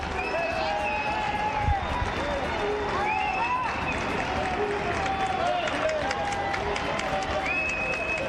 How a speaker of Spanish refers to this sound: Pues no son los reyes, es Pedro Sánchez. Estos abucheos que se escuchan.